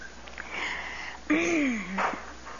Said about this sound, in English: Usually I talk through my tears, but I'll have to breathe a minute. Okay, I'm breathing.